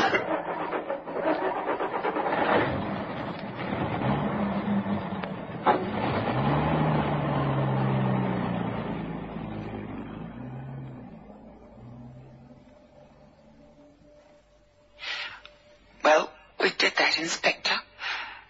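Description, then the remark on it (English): A car engine roars and revs, its low drone rising and shifting as it pulls away and gradually fades, followed by a few sharp, short bursts of noise. “Come on, sweetie, get her rolling.”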